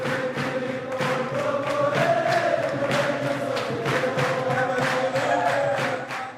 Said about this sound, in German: Ungefähr 600 Männer singen, klatschen, tanzen für die Einheit ihrer Heimat Ruanda.